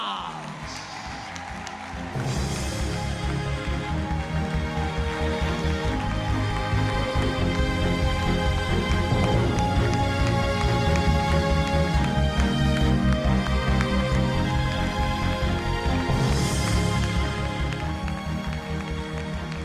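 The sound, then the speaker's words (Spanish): An audience at a political event in the municipality of La Orotava, Tenerife, breaks into loud, dense applause for candidate Ana Orama after a brief quieter opening, the clapping holding steady and unbroken for roughly seventeen seconds with a faint tonal backing underneath. “Y este es nuestro aplauso para ella, Ana Orama.”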